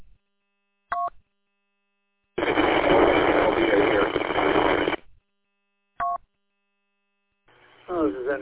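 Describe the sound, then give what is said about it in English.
A loud burst of harsh, hissing radio static lasting a few seconds, set between two short electronic beeps, with a voice beginning to talk at the end, heard as someone tried to contact the operator over the radio. “There was just ready to switch over, but it was a lot of static.”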